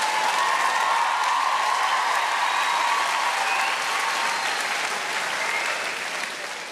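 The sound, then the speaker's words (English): Women in an audience clap and cheer in a dense, steady burst of applause that holds strong for several seconds, then gradually thins and softens toward the end, with no talking over it. “All those women clapping, they meant yours.”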